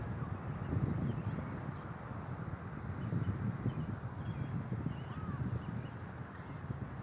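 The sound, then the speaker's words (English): Outdoor ambience: a steady low rumble carries a few faint, scattered bird calls, brief high chirps that come and go. No one speaks. “So enjoy the birds and have a good Cinco de Mayo.”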